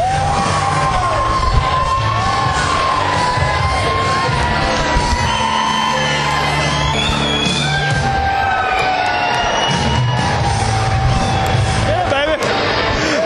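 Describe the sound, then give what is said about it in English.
A huge crowd at a packed concert venue, all three levels full, screams and cheers continuously, a dense wall of high-pitched shrieks and yells rising and falling together, loud, filling the whole space with no break. “It's funny to watch this because we're just pointing and they're screaming.”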